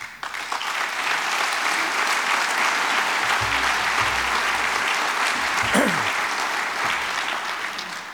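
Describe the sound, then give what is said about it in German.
Steady applause from an audience in Rüsselsheim, given for those engaged daily in research, fills the whole stretch, a dense, even wash of many hands clapping at constant loudness, with no voices breaking through. “Da können wir stolz sein und da sollten wir aber auch all denjenigen, die sich da tagtäglich in der Forschung stark engagieren, einen Applaus geben.”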